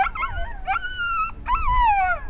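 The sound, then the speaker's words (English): Several dogs howl together in long, wavering tones, with a few short yips mixed in at the start. The chorus is loud, with no one talking. “He runs straight for the sound of the howls.”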